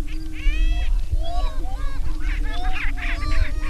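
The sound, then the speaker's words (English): A crowded chorus of about 24 male grouse displaying and calling at a lek, with five hens present: overlapping whoops, hoots and rising cackles from many birds at once, over a steady low hum and rumble. “More birds arrive, and soon there are 24 combative roosters prancing and preening for the attention of five seemingly disinterested hens.”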